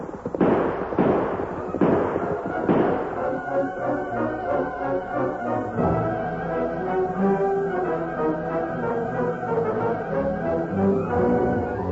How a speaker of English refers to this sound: Listen, Kimosabe. Shooting. They woke me up.